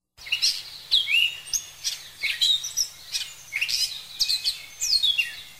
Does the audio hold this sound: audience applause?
no